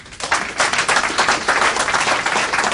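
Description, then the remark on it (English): An audience claps to show they are against NAFTA for Africa, a dense, crackling wash of many hands that starts abruptly and stays loud and even without letting up. Nobody speaks over it. “Now, if you are against NAFTA for Africa, again, would you clap?”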